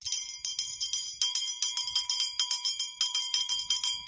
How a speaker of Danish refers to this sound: Jeg skal lige teste, for jeg tror faktisk, jeg har fået en klokke.